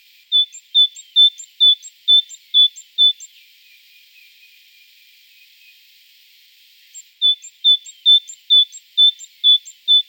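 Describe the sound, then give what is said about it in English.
A great tit's leaky pump song: a rapid, rhythmic run of high, squeaky two-note phrases repeated about seven times, a pause, then another matching burst. No one speaks. “Great tits have a huge range of sounds, but the most distinctive is the leaky pump song.”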